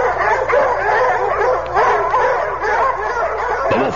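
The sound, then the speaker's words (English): A pack of Vanir hounds closing in for the kill barks and yelps loudly and without pause, their overlapping voices mixing sharp barks with higher whining cries across the whole stretch. “And then I remembered my father being torn apart by the Vanir hounds.”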